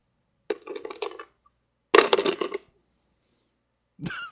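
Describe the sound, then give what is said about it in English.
Ice cubes rattle and clink against the bottom of a glass as someone finishes a drink, in two short bursts of rapid, bright clattering, followed by a brief third shake at the end. No one speaks. “Got a bit of ice in the bottom of the glass there”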